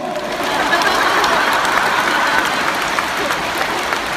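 A crowd breaks into steady, dense applause, many hands clapping together in a sustained, even wash of sound for several seconds, with no voices rising above it.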